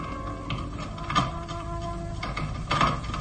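A metallic, grinding rattle of a key working the stiff, rusty lock of a door to a secret salon, with scraping clicks and two sharper squeaky peaks as the mechanism turns.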